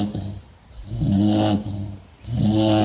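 A dog named Ina snores loudly, two long rasping snores with a raspy hiss, separated by a quieter breath in between, with no voices.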